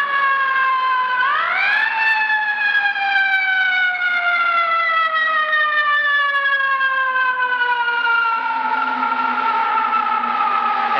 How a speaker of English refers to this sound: it'll pass us here in a few seconds. Doppler. Here comes another fire truck.